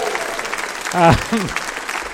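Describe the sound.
An audience applauds with steady, dense clapping throughout, and a brief voiced whoop or cheer rises above it midway before the clapping carries on.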